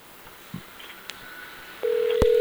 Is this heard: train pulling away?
no